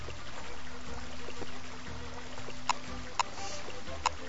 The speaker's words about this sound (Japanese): 音をですね、ゲーム内の音をちょっと入れてみましょうか。 はい。 はい、かなり、失礼します。音量がでかいんで、これを、よいしょ。 あ、BGM が。 そうですね、あと、水の音でですね。